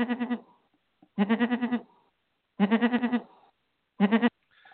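A sheep bleats four times in close succession, each call loud, nasal and quavering, with brief silent gaps between them and no voices.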